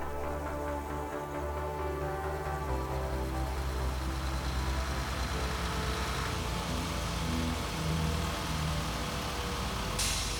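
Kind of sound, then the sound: vehicle, bus engine idling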